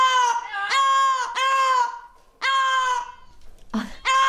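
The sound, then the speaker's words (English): An Amazon parrot named Coco screams loudly in a string of about five harsh, piercing calls, each drawn out for a moment with short breaks between them, then two quicker squawks at the end, as the bird Basil, with whom she has bonded, is being taken home. No one speaks. “Literally, she's screaming, don't take him away.”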